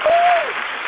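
A burst of steady, dense recorded audience applause, played from a sound board, fills the whole second, with a short sustained tone near the start that slides downward before fading into the clapping.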